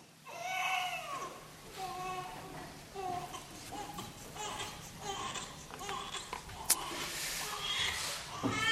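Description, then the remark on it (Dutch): A baby cries in a church during a baptism service, a string of high, wavering wails rising and falling for several seconds, fairly loud and continuous with only brief breaths between cries. “Het is mooi in een doopdienst dat ook echt te horen is dat er een baby in de kerk is.”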